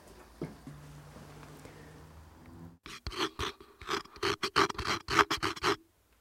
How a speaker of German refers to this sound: So, gleich wird ein Mikrofon zerflext mit einer Flex-Säge. Das gute Super 8 Mikrofon Nummer 2, ja, auf dem der Hund schon rumgekaut hat.